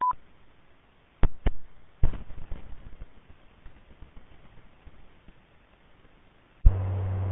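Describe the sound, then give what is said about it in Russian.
Tones from the operator's telephone break into a hissy, band-limited amateur radio channel: a brief beep, a few sharp clicks, static, then a loud, steady tone that cuts in near the end. No one speaks. “Одну секунду, извиняюсь, телефон у меня.”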